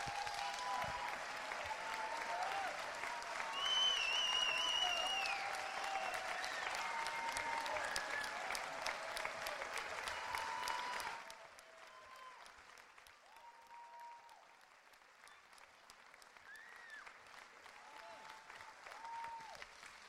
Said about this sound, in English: Do you think you could do me a favor? Can we just stand and just applaud the Lord for what he's done in each and every one of these people?